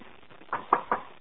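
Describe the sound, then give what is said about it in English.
A chair knocks against something three times in quick succession, sharp, hollow thuds spaced evenly over about half a second with no talking. “خلاص leave the chair alone.”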